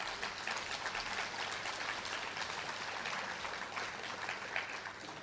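A crowd claps steadily for several seconds, a dense, even wash of many hands, sustained at a constant level with no voices breaking through.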